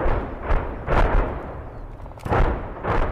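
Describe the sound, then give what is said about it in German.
Artillery shells explode a few kilometres away on the Lüneburg Heath, Germany, during a military exercise, striking across a width of about 2 km. They come in a rapid series of about five deep, rumbling booms that roll and overlap with a heavy low-end thud, each blast swelling then fading into a continuous roar. “Dann reißen Artilleriegeschosse den Boden der Lüneburger Heide auf.”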